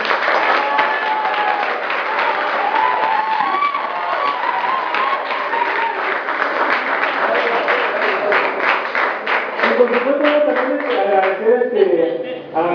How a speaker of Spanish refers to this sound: gracias, un aplauso, muchísimas gracias por acompañarnos.